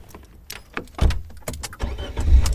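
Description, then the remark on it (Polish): A car starts up at Podzamcze as people get in to drive to a church: a few sharp clicks and knocks, then a low engine rumble kicks in and grows steadily louder. No one speaks. “Jesteśmy na Podzamczu, wsiadamy do samochodu.”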